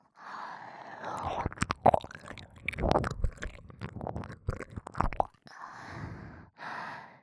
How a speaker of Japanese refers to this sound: 耳の奥まで吐息も舌もニュルニュルって。